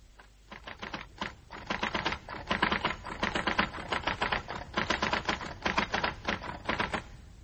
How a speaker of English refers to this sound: I ought to have told Mr. Burley I couldn't possibly finish typing this engrossment tonight